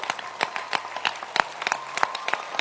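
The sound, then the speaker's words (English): A church audience claps hands for their pastor, a dense, continuous patter of many overlapping claps with sharper individual slaps standing out, sustained throughout without any talking. “Clap your hands for this pastor God has given us.”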